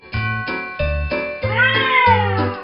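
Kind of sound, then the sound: animal, cat meowing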